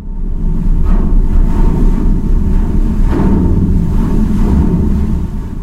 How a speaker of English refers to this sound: Here's the Odin. This is a Swedish ice-breaking ship that rides up onto ice floes in the Arctic, uses its weight to crack them. You'll hear the sound of ice meeting the Odin's bow, again, as long as there is ice there.